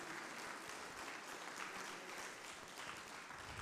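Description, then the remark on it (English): A church audience at Return Church claps steadily for the word of God at the end of a service, a dense wash of many hands applauding at once, sustained and fairly loud throughout with no pauses and no clear talking over it. “Give the Lord a hand clap for the word of God and stand to your feet.”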